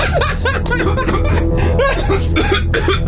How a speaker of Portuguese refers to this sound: Mas deu até tosse, né? Poeira, subiu uma poeira.